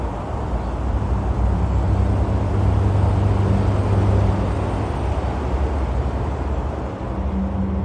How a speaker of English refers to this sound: now beside the fences, listening to that traffic, which, while not quiet, I luckily mostly consider white noise, no different from sitting by a beach and listening to the waves crash. In fact, here's a little taste I've just recorded on my phone.